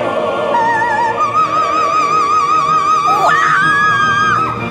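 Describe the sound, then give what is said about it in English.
A performer's high, piercing, joyful freedom scream at the end of a performance, held for several seconds with wavering vibrato, loud, rising briefly near the end before being sustained again over a faint background. “So you're so happy to have survived till there that it's like a freedom scream.”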